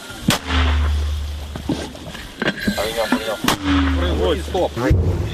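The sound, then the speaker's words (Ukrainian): Two loud artillery gun shots a few seconds apart, each a sharp crack followed by a deep rumbling boom, with men's voices in Ukrainian adjusting aim and giving the command to fire between and after the shots. “Вогонь. Постріл!”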